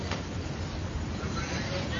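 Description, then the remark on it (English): A passing train rumbles steadily during a college softball game, a continuous low roar with a hiss on top that stays even throughout, with a faint murmur of background activity. “You hear the first train, Doug?”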